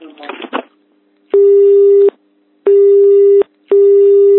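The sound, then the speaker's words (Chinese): A loud telephone busy tone repeats three times as a reporter calls Qinghai Weisite Copper Co., Ltd. and the call goes unanswered, each steady beep lasting under a second with short pauses between, after a brief snatch of voice at the start. “之后记者再次拨打电话，但对方一直拒绝接听。”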